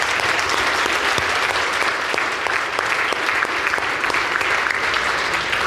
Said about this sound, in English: And you guys have been doing it for 75 years. 75 years of this academy, guys. You should clap for that.